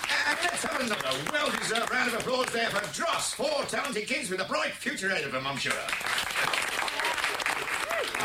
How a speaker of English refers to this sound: Round of applause there for …, four talented kids with a bright future ahead of them, I'm sure.